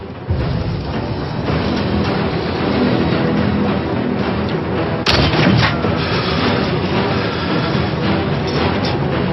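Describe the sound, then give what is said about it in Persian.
Dense, continuous gunfire rumbles throughout, loud, with one sharp, heavy shot cracking out about halfway through. No one speaks. “چند تا گلوله داریم؟ سه تا.”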